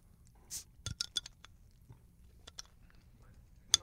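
A beer bottle being opened by someone opening a bottle for the first time, as a second beer is readied for serving: a series of short, uneven clicks and scrapes of the cap, with a soft hiss early on and a sharp, bright glassy clink at the end. No voices.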